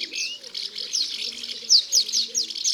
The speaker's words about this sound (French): Ça va très vite. Elle passe la tête dans le nid, elle donne sa béquille d'insectes et elle repart en lançant des cris stridents.